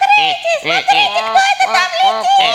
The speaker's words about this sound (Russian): Смотрите, кто это там летит? Это дикие гуси. Опять будут звать с собой наших домашних гусей.